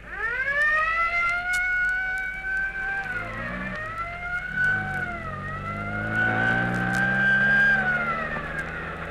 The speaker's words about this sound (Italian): La sirena della polizia.